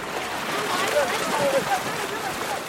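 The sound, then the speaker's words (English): Steady wash of ocean water around a pirogue, a small wooden boat, drifting at sea, a continuous hissing slosh with faint, indistinct voices murmuring in the background. “suddenly made sense while I was on this pirogue.”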